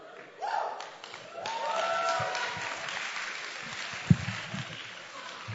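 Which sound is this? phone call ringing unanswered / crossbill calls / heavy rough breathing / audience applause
audience applause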